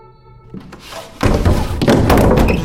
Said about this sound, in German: Du hämmerst mit beiden Händen gegen den Boden.